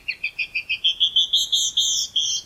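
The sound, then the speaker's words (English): A female canyon wren sings a run of about a dozen clear, sweet whistled notes that stretch out and slur as the series goes on, distinct against a quiet background. “But many female birds do sing, even in colder climates, such as this canyon wren.”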